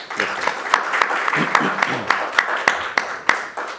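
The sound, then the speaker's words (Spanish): An audience breaks into steady, sustained applause for a writer being introduced: a dense wash of clapping with a few louder, sharper claps standing out, and faint voices murmuring underneath. “Les pido un fuerte aplauso”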